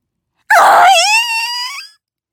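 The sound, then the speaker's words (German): A single loud, shrill scream from a girl's voice, starting abruptly and holding a high, piercing pitch for over a second before cutting off. It is alone, with no talking. “Der Schrei war so laut und schrill, dass die Schulglocke dagegen ein Mausepieps war.”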